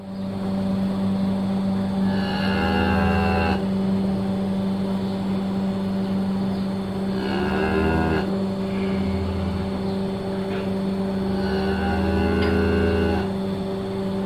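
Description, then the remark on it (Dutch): A cow moos three times in a recording of cow sounds from a quiz, each call a drawn-out, fairly loud low bellow spaced several seconds apart, over a constant droning machinery hum. “Dit was de volgende koe in de quiz die het Meertens Instituut toen heeft gemaakt. Met allemaal van die koeiengeluiden.”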